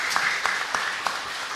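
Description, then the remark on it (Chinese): An audience applauds at the end of a Buddhist lecture, thanking the lecturer; a dense wash of many hands clapping steadily with a few sharper claps standing out in the opening second, holding at an even moderate level throughout. “我们再以热烈掌声啊，谢谢李老师。”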